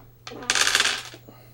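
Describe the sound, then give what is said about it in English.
A handful of dice, twelve dice rolled for artillery, clatters and rattles across a glass surface in one bright burst lasting about a second, then quickly settles, with a low steady hum underneath. “Oh, hiding the farts with the dice on the glass, eh?”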